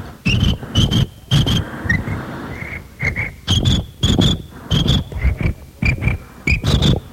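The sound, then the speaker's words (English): A voice imitates a cricket on top of a bag that jumps down and gets covered by the bag, producing loud chirping bursts in quick clusters with short pauses, a thin high whistle-like tone threading between them. “This is the cricket on top of the bag, uh-huh, and he jumps down, and then he gets covered by the bag.”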